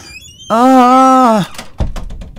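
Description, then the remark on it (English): A trap door swings open with a long, loud, steady creaking groan lasting about a second, followed by a heavy thud and a brief rattling clatter. “That sound again. Oh no! Another trap door!”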